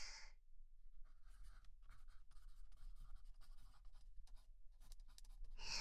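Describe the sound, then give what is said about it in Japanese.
An automatic writing pen scratches quickly across paper in continuous strokes with brief pauses, a steady scribbling rhythm over a quiet low hum, with a couple of brighter scraping bursts at the start and end. “自動筆記ペンをセットしてと。”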